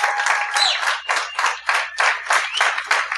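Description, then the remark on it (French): An audience at a show breaks into steady, loud applause for a man, many hands clapping together in a dense, continuous wash with a slightly pulsing rhythm, and no one speaking over it. “Applaudissez-le très fort.”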